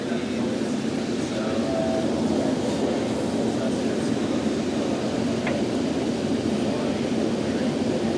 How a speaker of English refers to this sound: We're now arriving at Farmington Station. Please watch your step as you exit the train. We thank you for using Front Runner. Have a nice day.